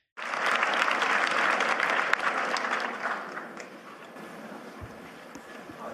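A short burst of scattered audience clapping from a modest crowd, swelling quickly, then thinning out and fading over several seconds.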